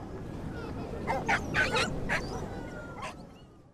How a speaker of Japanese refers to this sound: こら、ポチ、吠えちゃダメ。すみません。 No, Pochi. No barking. I'm sorry.